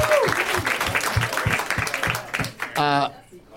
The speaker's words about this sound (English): Oh, I was clapping too.